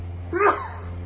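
A single short sneeze, a quick voiced rise breaking into a breathy burst, standing out briefly over a steady low electrical hum.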